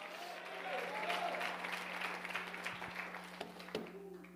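A crowd claps steadily in praise of the Lord, filling the whole few seconds with dense, continuous applause, with scattered voices shouting and cheering underneath the noise.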